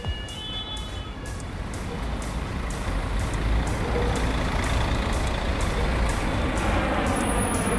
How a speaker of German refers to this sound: Vor dem Bahnhof dutzendweise Busse, startbereit, um die Pendler in ihre Büroviertel zu schaffen.